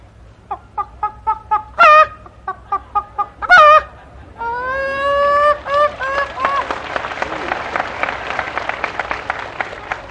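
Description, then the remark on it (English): Chicken clucking calls: a run of short, evenly spaced clucks broken by a couple of louder drawn-out squawks, then a rapid, busy flurry of cackling. “Try the chickens.”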